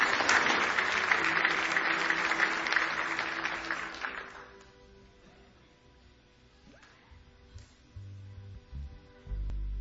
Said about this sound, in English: Give them a nice hand as they come to see you.